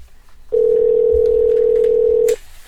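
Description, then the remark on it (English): A phone line rings on an outgoing call to special guest Dee Wallace: one steady, buzzing ringback tone that holds for nearly two seconds, loud and clear, with no talking over it. “Let's try and see if we can get her on the phone.”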